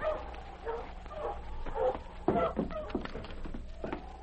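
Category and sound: animal, dog barking and whimpering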